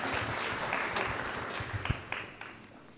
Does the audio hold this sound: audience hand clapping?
yes